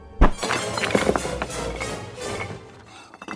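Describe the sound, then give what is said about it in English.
A stone statue of a god is knocked down and topples with a heavy, booming thud, followed by a rapid scatter of cracking, clattering debris that rumbles on and slowly fades. “If I've just brought down a stone god, just what trouble is Roy Steele in?”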